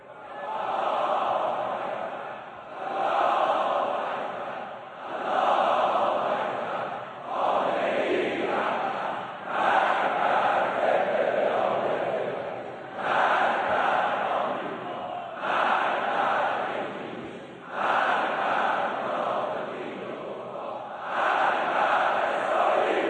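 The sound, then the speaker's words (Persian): A large crowd of people in Iran chants loud rhythmic cries of revenge in unison, repeated phrases rising and falling in bursts of roughly two to three seconds, with brief dips between each shout. “این فریاد انتقامی که از مردم شنیده شد در سراسر کشور، در واقع این فریاد انتقام سوخت حقیقی موشک‌هایی بود که پایگاه آمریکایی رو زیر رو کرد.”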